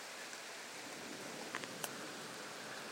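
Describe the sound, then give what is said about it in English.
Steady, dense hiss of rain pouring down outdoors during a thunderstorm in France, with a few sharper drops spattering; no thunder or voices, just the continuous wash of rainfall. “In a thunderstorm. I'm in France still. And we've got a storm like you wouldn't believe.”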